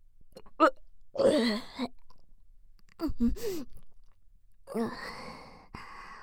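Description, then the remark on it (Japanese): A few throaty, voiced gulps and a low, rumbling burp after drinking a lot, with breathy vocal sounds spread across several seconds and no clear speech. “ザーメンゲップ出ちゃったけど、あんなに飲んだんだから仕方ないよね。”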